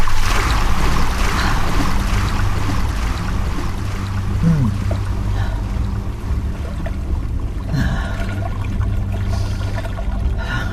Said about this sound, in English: So imagine her. She's sitting inside this barrel. It's dark. She's holding on to these handles. The smell of soaked wood is around her, and she's hearing the river. And in the bottom of the barrel, there's, you know, about 8 inches of sloshing water